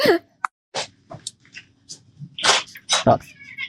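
A female cat named Lilith gives a short meow at the start and another brief mew near the end, amid breathy hissing bursts and rustling noises.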